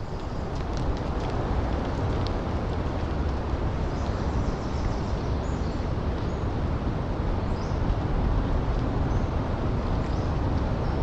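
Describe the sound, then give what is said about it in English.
A steady, dense rush of breeze moving through the trees on the Oregon coast, carrying fog so dense that moisture drips like light rain from the needles in soft scattered ticks. The wash holds an even loudness throughout, with no voices. Recorded by Gordon Hempton. “A breeze sweeps through the trees, carrying fog so dense, the moisture drips, rain-like, from the needles.”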